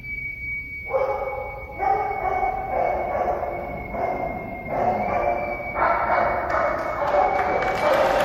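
Several dogs bark repeatedly in overlapping bursts over a steady, sustained high whistle tone from ceremony whistles that runs through the whole recording, as a retiring Navy family departs a ship. Fairly loud with a noisy background.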